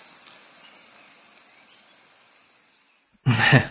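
cricket chirping sound effect

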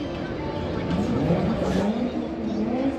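car engine revving

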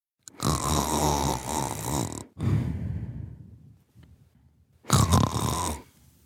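man snoring

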